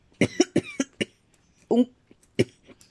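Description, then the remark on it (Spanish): A rapid burst of four or five harsh coughs, followed after a short pause by a couple more raspy coughs, loud and dry, with no talking. “Sufrió un nuevo acceso de tos.”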